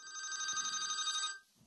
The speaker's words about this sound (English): Who would be calling me right now? And why is my phone on?